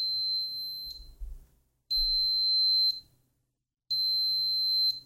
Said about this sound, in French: Alarme, comme son nom l'indique, c'est pour faire sonner le périphérique.